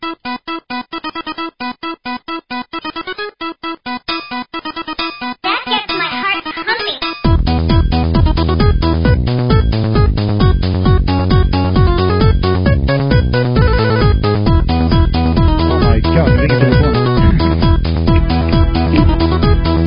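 A short, upbeat radio-style jingle, opening with choppy rhythmic stabs before a full, driving beat kicks in and carries on steadily and loud to the end, with no talking.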